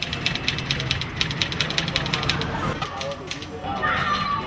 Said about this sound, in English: In Monrovia, the capital, the sound of typing mixes with the sound of cars in the street.